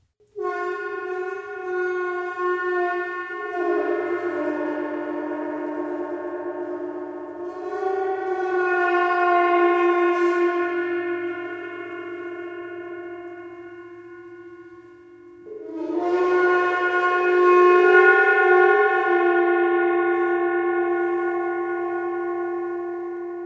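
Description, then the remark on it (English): A medium-sized gong played with a friction attack in a studio, producing a long, sustained, moaning drone with rich overtones that swells, shifts pitch, dips briefly, then returns louder, sounding eerie and whale-like. “This is a friction attack on a medium-sized gong.”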